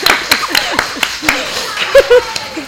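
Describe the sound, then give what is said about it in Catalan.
A few people clap in a loose, uneven rhythm, sharp individual claps rather than a dense wave of applause, while voices and a bit of laughter mingle underneath. “Aplaudiu, aplaudiu!”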